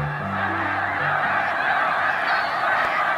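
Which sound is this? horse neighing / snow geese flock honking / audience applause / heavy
snow geese flock honking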